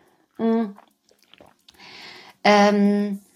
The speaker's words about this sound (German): also erstmal Prost, einen Schluck Wasser hier bei der Wärme.